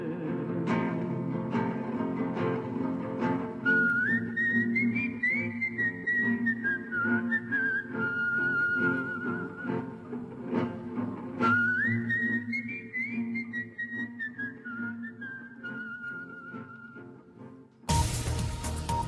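A clear whistled melody of a resistance song plays over low instrumental backing, forming two slow phrases that rise and then gently fall. The track ends abruptly in a brief burst of noise.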